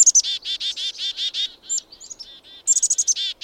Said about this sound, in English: Evening grosbeaks are disappearing from backyard bird feeders, and no one knows quite why.